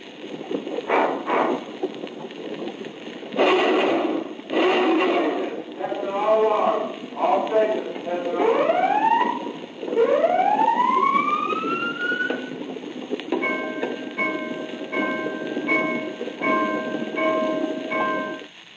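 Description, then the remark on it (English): Submarine alarms blare over a tinny public address system: rising whooping sweeps that speed up, then a steady pulsing electronic beep, after a muffled, distorted announcement voice at the start. “In the next example, you will hear a series of alarms and another announcement over the public address system.”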